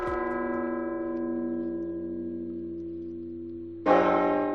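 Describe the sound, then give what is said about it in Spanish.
The oldest bells of Burgos Cathedral ring out by hand on a Monday in homage to Pope Francis hours after his death, one deep stroke humming and slowly fading before a second bright strike rings in, loud and resonant with long overlapping tones. “Y este lunes, solo unas horas después de la muerte del Papa Francisco, las campanas más antiguas de la Catedral de Burgos repicaban a mano en un homenaje al pontífice.”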